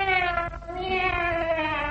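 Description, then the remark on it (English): A person imitates a cat's meow with a drawn-out, steady, nasal mewing tone that lasts about two seconds, moderately loud, with no other talking. “It must be the cat.”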